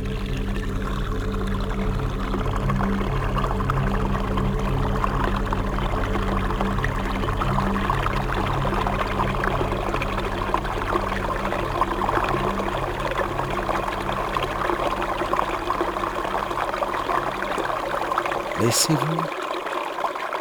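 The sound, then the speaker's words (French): Steady bubbling, gurgling water runs over a continuous low droning hum at an even level, cut off by a brief sharp click just before the end. “Produisant ce bouillonnement, ce bourdonnement continu et agréable.”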